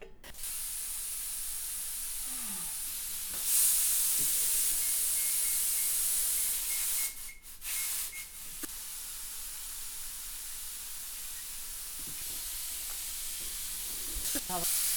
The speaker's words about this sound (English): As you can see, it's whistling away. If you're using an Indian style pressure cooker, this is a Lagostina. It gives a long, low kind of whistle.